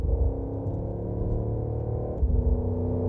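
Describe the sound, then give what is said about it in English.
A deep, steady artificial V8-like engine rumble made by the electric AMG C590 prototype Mercedes, heard from inside the car. The layered low tones hold fairly even throughout, with a brief shift in pitch near the end and no talking. “But that's the fake, sounds like a V8 Mercedes”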